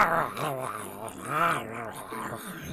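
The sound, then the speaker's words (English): A person imitates a lion growling and snarling while chomping on a takeout box, with rough, rising and falling rumbles that run continuously for about three seconds, fairly loud. “Oh, they're eating the box.”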